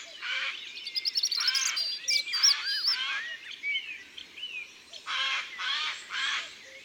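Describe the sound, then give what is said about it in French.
Harsh, rasping screeches of a Eurasian jay's alarm calls in a forest, raised at the presence of people, several loud grating bursts at the start and again near the end, with other birds' thin whistling song in between. “C'est une espèce de sentinelle de la forêt qui pousse de grands cris dès que quelque chose l'inquiète, comme nous ici par exemple.”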